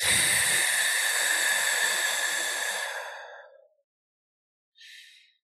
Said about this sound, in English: And then I just begin to breathe. And I do Zen breathing, so it's like you concentrate more on the out-breath and just let the breath come in. I don't pull it in.